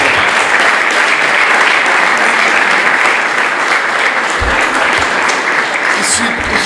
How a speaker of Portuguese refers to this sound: E podia, desde já, uma grande salva de palmas a este fantástico grupo, faz a vida, faz a alma deste grande grupo.